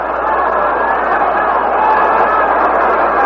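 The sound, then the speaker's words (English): A large baseball stadium crowd roars steadily as Yogi Berra comes out, a dense, continuous wash of fans beginning to applaud, loud and evenly sustained throughout with no distinct individual claps standing out. “And the fans are starting to applaud.”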